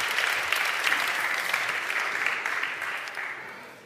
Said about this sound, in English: Why don't we give our two volunteers a round of applause?